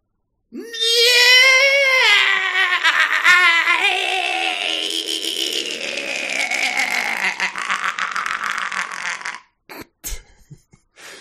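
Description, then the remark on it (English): A person voices a tortured animal's wail, likened to a tortured capybara: one long, loud, high-pitched cry that wavers and quivers, then breaks into a raspy, fluttering rattle before stopping abruptly. “I thought that was a tortured capybara.”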